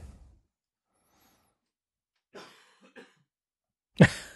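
A few short coughs with no one talking: two softer, breathy ones in quick succession, then a pause and one sharp, louder cough at the end.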